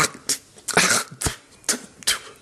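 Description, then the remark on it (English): A person imitates harsh hacking to clear cat hair stuck in the throat: about six raspy, forceful bursts in an uneven rhythm, with short gaps between them and no speech. “but the cat hair was still stuck, so you had to hack more, like...”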